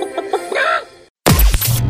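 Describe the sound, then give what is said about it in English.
A chicken clucks, a few quick clucks building into a drawn-out squawk, then a brief silence before a loud, crashing burst of noise. No one speaks. “Give them a chicken.”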